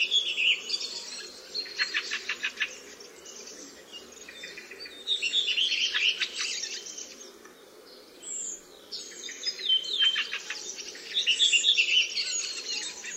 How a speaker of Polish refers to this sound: Droździk gnieździ się u nas nielicznie, za to bardzo licznie spotykany jest w okresie przelotów. Zwrotki wyśpiewywane przez jednego samca są zwykle niemal identyczne. Składają się z kilku wysokich gwizdów zakończonych szybkim szczebiotem.